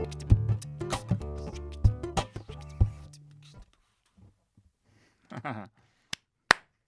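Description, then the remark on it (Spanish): A single person claps a few times, sharp isolated smacks spaced out near the end, following a stretch of tonal music that stops and a brief burst of speech. “Aplaudo yo, muy bien.”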